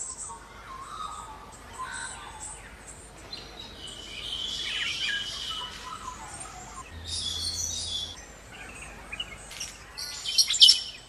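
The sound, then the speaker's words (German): A lively dawn chorus of many birds chirping and calling at once on a morning on Kangaroo Island, Australia, layered songs and tweets from several directions, with a few harsher calls mixed in over a steady outdoor background. “Hier könnt ihr schon mal reinhören, wie so ein Morgen auf der Insel klingt.”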